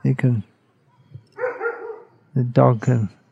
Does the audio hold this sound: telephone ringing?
no